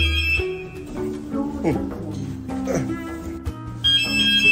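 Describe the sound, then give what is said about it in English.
An elevator alarm bell rings in steady, shrill bursts near the start and again at the end as a woman presses the alarm button in a lift, with muffled voices and movement in between. “Now she's pressing alarm.”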